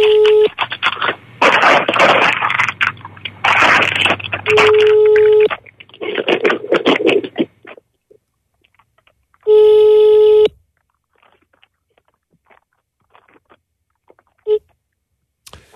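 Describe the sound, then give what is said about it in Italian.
A phone call is placed from a phone to reach a man for a live broadcast: a loud burst of dialing tones and line noise, then a single long ringing tone, followed by near silence with no answer. “vogliamo provare a chiamarlo, perché dovevamo partire già qualche minuto prima a chiamarlo”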